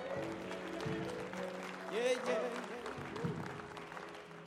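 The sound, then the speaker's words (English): A church audience claps steadily, giving God another hand clap, as a dense, continuous wash of hand claps, with voices calling out and cheering over it, swelling briefly near the middle. “Come on, yeah, you can give Him another hand clap.”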